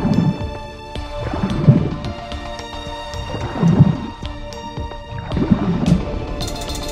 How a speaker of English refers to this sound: The sounds are muffled, the sloshing of water, the distant, haunting calls of other sea creatures, and above all, the constant rhythmic beat of the beast's heart.